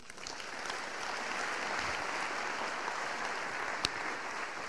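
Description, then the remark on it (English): An audience claps for the Lord together in a steady, dense wash of applause that holds at an even level for several seconds, with one sharper clap standing out near the end. “Can we give the Lord a clap?”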